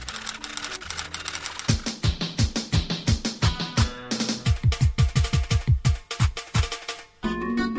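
Fast, rhythmic, loud clacking of keys on a computer keyboard, set over a musical bed with punchy low thumps; no one speaks.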